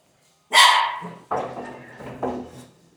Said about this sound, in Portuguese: Os dog. Esses dog não param de latir pra mim.